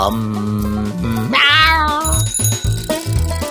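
A loud, drawn-out tomcat meow rises and falls near the middle, set over a bouncy musical jingle with bright bell-like chimes that continues after it.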